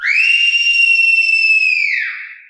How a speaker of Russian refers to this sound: Одну минутку, прислушайтесь. Мне хочется, чтобы и вы вместе со мной услышали пение птиц. Слышите?